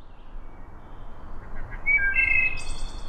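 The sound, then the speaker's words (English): A wood thrush sings one short, fluting phrase of clear whistled notes ending in a higher, thinner trill, set against a steady hiss of outdoor ambience, with no voices. “Wood thrushes, as common as they are, have actually declined over 50% in the last 50 years.”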